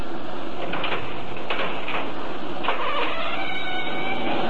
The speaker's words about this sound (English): Now, first, let's see if this door is locked. If it is, we'll have to break it down. Easy now. Let's turn the knob slowly. Slowly.